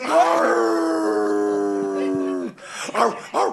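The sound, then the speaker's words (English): A wolf lets out a long, steady howl that holds one pitch for a couple of seconds, then breaks off into a few short, rising and falling calls. “I don't know why the wolf works so.”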